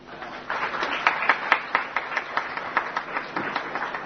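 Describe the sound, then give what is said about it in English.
An audience breaks into applause, many hands clapping together in a steady, fairly loud patter that swells after a quiet start and keeps going with rhythmic peaks throughout. “I think we must definitely applaud also for the hard work and labor which the OD have done. I think a good clap.”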